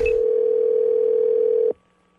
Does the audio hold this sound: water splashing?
no